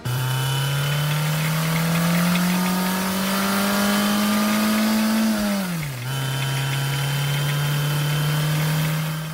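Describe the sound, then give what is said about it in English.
Bob Eccles' car engine hums steadily with no voices, its pitch slowly rising as it accelerates, then briefly dipping around six seconds as if shifting gear before droning on evenly. “We'll take Bob Eccles' car.”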